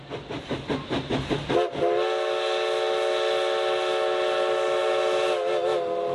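A historic steam locomotive of the Oregon Coast Scenic Railroad, running along the Oregon coast, chuffs in quick rhythmic puffs, then a loud, sustained whistle sounds for several seconds over the engine's rumble.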